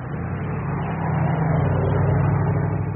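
A car engine idles and hums steadily nearby, a low continuous rumble that swells slightly louder partway through, with no voices.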